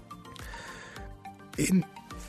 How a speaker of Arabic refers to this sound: عفوا كنت بكح